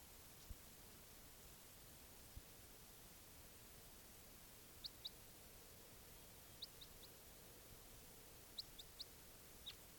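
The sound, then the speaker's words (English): Birds call in short, high-pitched chirps, a few scattered single and paired notes, faint over a steady hiss of background noise with no talking. “There's birds there.”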